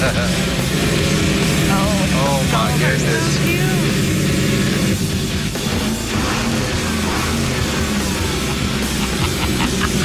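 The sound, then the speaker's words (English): A modified 1953 Chevy truck, its body kept original-looking and all modern underneath, runs its engine with a loud, steady, gritty rumble for the whole stretch, while a man's voice briefly exclaims over it. “We wanted to make sure that the body of this truck stayed looking like the 1953 Chevy that it is, but underneath the skin, we wanted this baby to be all modern”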